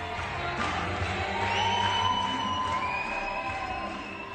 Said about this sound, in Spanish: Aplausos, gritos, silbidos